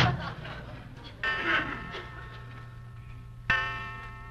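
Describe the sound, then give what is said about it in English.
A clock chimes midnight with slow, resonant strikes, each tone ringing and lingering before the next, about three in all, with no voices. “12 o'clock.”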